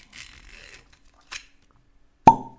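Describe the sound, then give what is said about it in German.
A crackly tearing of a bottle's seal, a brief rustle, then one sharp cork pop with a short hollow, ringing tone as the stopper comes out of a new, unopened Bonnehaven (Bunnahabhain) whisky bottle. “Der ist jetzt wirklich frisch neu und wird jetzt live aufgerissen.”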